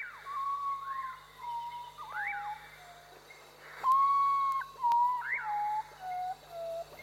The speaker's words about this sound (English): Something else that sounds like a bird. It's the ocarina. Its rich timbres have been heard for centuries in Central and South America, where it captures beautifully the melancholic, bluesy song of the native common potu bird.